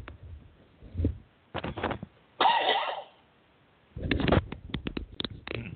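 sneeze

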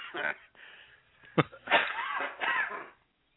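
smoker's cough

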